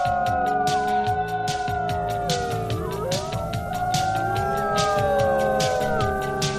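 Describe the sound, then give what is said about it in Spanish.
Long, sliding howls, loud, from a professional howler imitating wolves on the COPE radio show Fin de Semana, rise and fall in overlapping waves over a steady rhythmic beat, with no talking throughout. “Aquí tenemos a nuestro aullador profesional”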